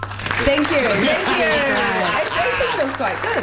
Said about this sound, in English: Just press the applause thing.